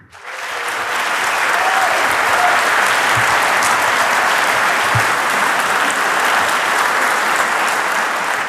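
Loud, sustained applause from a large audience, a dense wash of many clapping hands that rises quickly and holds steady for several seconds with no one speaking.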